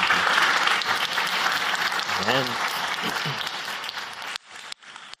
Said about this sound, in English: Thank you very much to all of you for this great panel, sharing all the insights into a heavy topic, a big industry. So big round of applause for all of you.